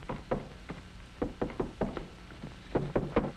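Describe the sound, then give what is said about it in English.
Repeated knocking on a door in quick clusters of two and three raps, moderately loud, with short pauses between bursts and no talking. “Open that door. Coming.”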